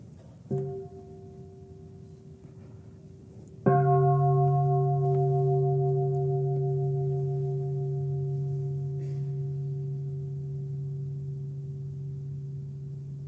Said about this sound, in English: I stop thinking about being and non-being when I hear the bell.